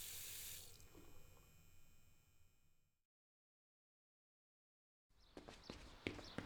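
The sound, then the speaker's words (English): A bathroom sink tap runs with a steady hiss of water for about three seconds, then cuts off into silence before a burst of clattering and knocking sounds. “He squints into the bathroom lights, sees the afterimage of her face in them, smiling at him as nobody ever has, and the cold water on his face does nothing.”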